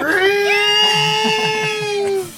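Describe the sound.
A voice imitates R2-D2's scream: one loud, sustained high-pitched wail with a steady, buzzy tone that holds for about two seconds before cutting off.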